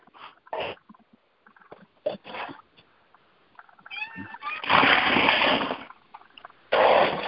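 A cat meows a few times in short, rising cries, then lets out longer harsh, noisy yowls, with brief pauses between the sounds.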